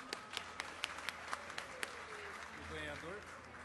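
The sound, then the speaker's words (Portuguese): Scattered audience applause at a music award ceremony as people are called up to the stage: a handful of sharp, separate claps in an uneven rhythm for under two seconds, then the clapping stops and a voice is heard speaking, all fairly faint. “salva de palmas.”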